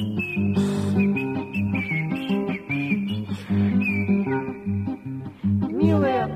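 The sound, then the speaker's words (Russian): A thin, high whistling melody, like air squeaking through a small hole in the right side of a rubber hedgehog toy, runs in short sustained notes over steady musical accompaniment, ending with a quick warbling glide. “Ёжик резиновый шел и насвистывал дырочкой правую боку.”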